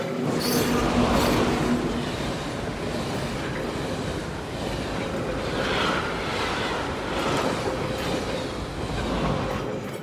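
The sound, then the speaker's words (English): A loud, steady roar of a moving train heard at its open door, with rushing wind and rattling wheels clattering continuously throughout. “moved back in shock, only to realize that she was in fact standing right in front of the open door of the train.”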